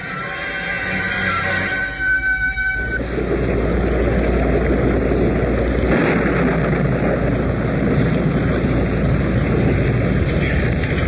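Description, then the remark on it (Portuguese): A heavy rain downpour, a dense, steady rushing hiss that swells in after a few seconds of low droning tones and then pours on loudly without letup. “Que chuva, que toró, hein, chefe?”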